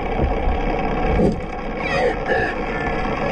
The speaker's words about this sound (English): He's studied this critically endangered population of Iberian orcas since the 1990s. He says the animals appear to focus their attention on the boat's rudder. In this underwater recording, you can hear an orca shove the vessel's rudder with its head.